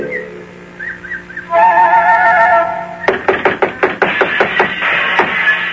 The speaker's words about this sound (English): Oh, it's no use. They're making so much noise inside the little house. They don't hear me knock.